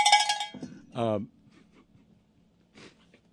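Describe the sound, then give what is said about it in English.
A loud, bright cowbell clank rings out for half a second, then a falling, wavering tone follows, with a brief quieter burst near the end over a low background hum. “Has Randy ever gotten a cowbell before?”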